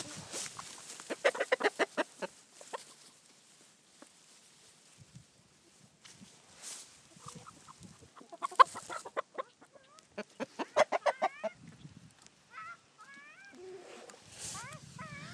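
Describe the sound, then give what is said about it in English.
Chickens at Hoven Farms cluck and squawk close by, bursts of rapid, rhythmic clucks broken by drawn-out, rising calls from several birds, with brief quieter pauses between outbursts. “So I'm going to move this down close to the chickens, and we will try to hear some chickens.”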